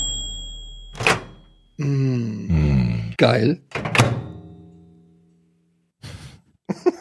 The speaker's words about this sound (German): Ah, jetzt verstehe ich es erst. Das war eine Mikrowelle.